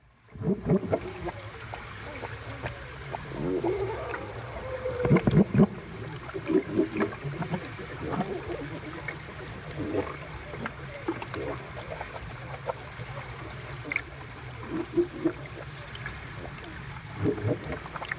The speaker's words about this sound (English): by using the hydrophones just to listen and have them in stereo as well gave a really real good sense of seals swimming around your head